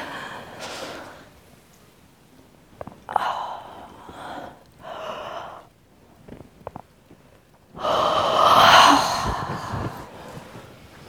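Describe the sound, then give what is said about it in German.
Several slow, deliberate yawns with deep breathy inhales and long sighing exhales, fairly loud, separated by quiet pauses, the last one the loudest and longest; a yawning exercise done with arms raised, alternately reaching toward the ceiling. “Es wurde auch herausgefunden, dass Gähnen nicht müde macht, sondern dass es im Gegenteil wach macht.”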